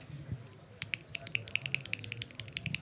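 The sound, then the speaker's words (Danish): A quick, steady run of about fifteen sharp, hollow taps mimics a woodpecker drumming on a tree, starting after a short pause over a soft low murmur. “Spætten, der hakker i træet.”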